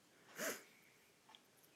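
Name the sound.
sneeze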